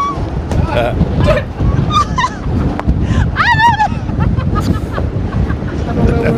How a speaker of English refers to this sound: The wind is so bad here in Desert Hot Springs that it even knocked... Oh, my God! She's being blown around the road.